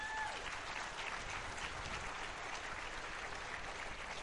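A crowd at a picking contest applauds the people who set the contest up, in a dense, even wash of clapping that holds at a constant level for the full four seconds, with no voices standing out.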